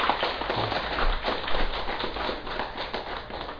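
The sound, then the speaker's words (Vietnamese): A Buddhist assembly applauds steadily for several seconds, many hands clapping in a dense, even patter with no one speaking over it. “Do vậy, xin đại chúng vỗ cho mình một tràng pháo tay thật to.”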